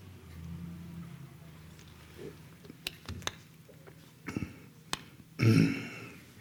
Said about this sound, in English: Sorry, I'm taking supplemental oxygen from a can, and it gives me hiccups.